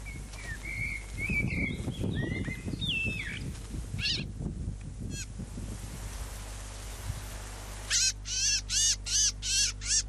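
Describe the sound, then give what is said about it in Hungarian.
Small birds chirp and twitter amid a low outdoor rumble, then a crow lets out a quick run of about five loud, harsh caws. “Sárgul az erdő, és ilyenkor az énekeikkel a reggelt díszítő madarak sokasága költözik el délre.”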